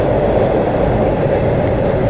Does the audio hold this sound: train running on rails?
yes